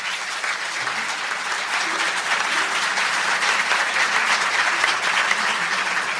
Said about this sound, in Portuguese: Palmas para eles.